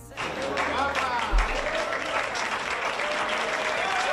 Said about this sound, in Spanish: Y así, entre aplausos, pues se la recibía dándole todo ese apoyo, todo ese ánimo, sabiendo que es duro físicamente, pero también psicológicamente